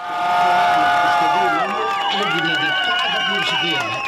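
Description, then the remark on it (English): LGBTQ+ activists watching on screens in the streets in Greece cheer as parliament passes a bill legalizing same-sex marriage, many voices overlapping in sustained, high-pitched whoops and yells that rise and fall, loud and continuous throughout. “But the vote was ushered in to the sounds of cheers from LGBTQ+ activists watching on screens in the streets.”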